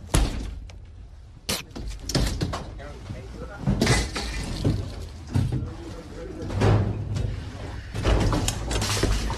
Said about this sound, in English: They break in the door. They're still breaking in the door.